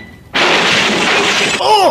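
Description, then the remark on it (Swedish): A flower pot taken from a shelf and thrown toward Tintin at the door smashes with a sudden loud, bright crash, followed by a sustained rattle of scattering shards, then a short vocal cry as the debris settles. “Det finns en kruka till där uppe på hyllan. Den slänger jag iväg mot Tintin vid dörren.”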